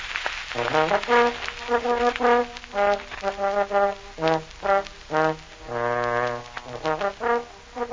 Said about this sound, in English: Play the trombone. Go ahead. I like it better with sure, the trombone. That sounds all right.